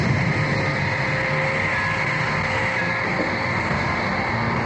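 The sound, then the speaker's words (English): Submarine engines run in a steady, dense mechanical drone, a heavy low rumble layered with faint high whining tones, holding an even loudness throughout with no voices. “Change the killer cycles and start the engines.”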